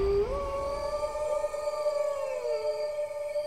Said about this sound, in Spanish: Era una especie de aullido. Me desperté de un sobresalto. Era la madrugada.